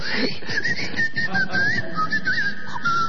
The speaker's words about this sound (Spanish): No, señor, es el aerosol del limpiahorno.